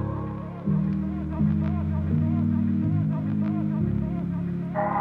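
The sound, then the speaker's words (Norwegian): The opening of a music track from an EP: sustained, droning low chords that shift to a new pitch every second or so, steady and fairly loud, with a faint wavering tone drifting above. “Du kan høre litt... dette er starten på e-pose.”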